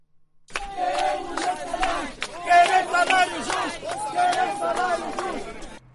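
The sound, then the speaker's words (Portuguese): A crowd of striking workers shouts and chants together at the gate of the Textaf factory, with placards, beginning a fight for a base salary: a dense mass of raised voices with sharp rising yells cutting through the continuous loud hubbub for several seconds. “Os cartazes e a gritaria à porta da Textaf, reinaugurada em fevereiro de 2021 pelo presidente João Lourenço, consumada que estava a entrada em cena de uma gestão zimbabueana, simbolizavam o início da luta por um salário base”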